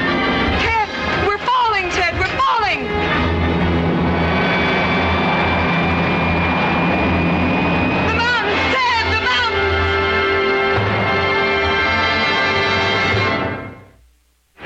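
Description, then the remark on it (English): A loud, steady engine drone of a passenger plane in flight hums continuously, with a few wavering, sweeping tones early on, before it fades away at the very end. “And behind him, a plane load of frantic passengers.”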